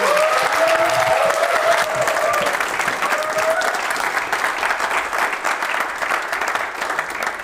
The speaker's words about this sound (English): So, ladies and gentlemen, big round of applause